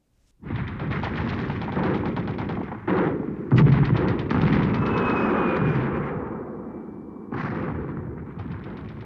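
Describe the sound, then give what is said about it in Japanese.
Dense battle sounds of Iranian fighters facing the advancing Iraqi army, with fire and smoke all around: a continuous roar of rapid gunfire and booming blasts, with sharp explosive onsets near the start, middle and end, loud, no voices. “その日、炎と煙があらゆる場所を取り巻いていました。火薬の匂い、爆発音、そして最悪なことにイラク軍が刻一刻と迫ってきていました。”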